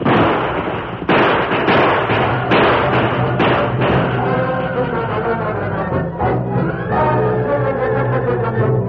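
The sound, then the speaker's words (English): Several loud, sharp gunshots crack out at irregular intervals over a dense, noisy background as Tonto shoots to keep outlaws busy in a shootout, then give way to a sustained, tonal musical passage. No one speaks. “Shoot, Tonto, shoot. Keep them busy.”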